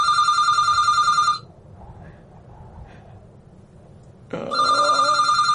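A telephone bell rings loudly in two bursts separated by a short pause, with a faint low hum underneath and a brief murmur of sound between rings.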